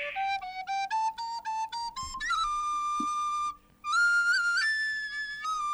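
A short live melody on a breathy wind instrument climbs in quick stepped notes and then holds longer tones, with one note slipping into a shrill whistling squeak. Clear and unaccompanied.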